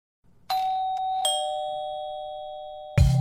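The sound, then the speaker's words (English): A doorbell chimes twice in close succession, its bright tone ringing out and slowly fading, before a louder, lower thump or knock cuts in at the end. “And I remember I wrote in bold in the email invitation, please ring the bell to get in, because I was hosting and I didn't want to have to keep checking my phone all night.”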